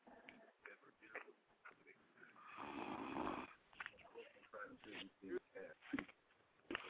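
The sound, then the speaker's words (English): A single loud, rasping snore rises and falls in the middle, surrounded by choppy voices talking before and after it. “Damn, dog, you snore hard as shit.”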